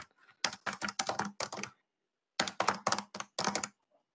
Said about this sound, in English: Somebody is typing. If they could mute themselves, please.